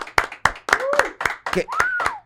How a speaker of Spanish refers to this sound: un aplauso, por favor, amigo